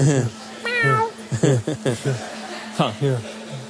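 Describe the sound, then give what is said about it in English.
A person imitates a cat, giving a drawn-out meow followed by several shorter meow-like calls and chuckly vocal bursts, fairly loud. “Hold a meow. Yeah. Meow.”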